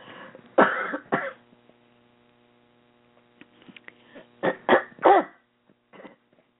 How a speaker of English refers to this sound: excusez-moi, I was slurping on a cough drop.